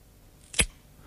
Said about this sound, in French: C'est-à-dire que c'est une pomme qui est cassée.